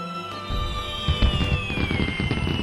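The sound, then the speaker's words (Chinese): Fireworks going off during the Spring Festival in a dense, continuous barrage of booms and crackles, with a high whistling tone slowly sliding downward over the bursts; no voices. “烟花，看到了吗？您一定看到了啊，璀璨绚丽，多美！”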